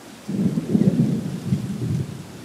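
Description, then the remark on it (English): A deep, rolling rumble of thunder from a night lightning storm flashing across the sky in all directions over Loggerhead Key swells in after a quiet moment and grumbles on steadily, low and heavy, with a faint hiss like rain behind it. “That night, we sit outside as a lightning storm flashes across the sky in all directions.”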